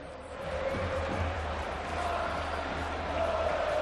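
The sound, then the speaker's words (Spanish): A large stadium crowd at Camp Nou roars steadily for Ansu Fati's return, with many voices chanting together in a sustained, pitched cry over a dense wash of cheering and a low rumble underneath. “Volvió 100 días después, era su cuarta reaparición esta temporada, recibió el cariño que estamos escuchando, el de la afición, los 10 minutos que calentó”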